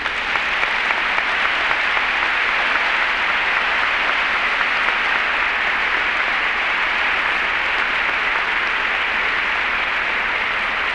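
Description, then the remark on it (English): An audience at a meeting applauds a speaker, clapping steadily and loudly, a dense wash of applause that holds at an even level for about eleven seconds without anyone speaking. “You applaud.”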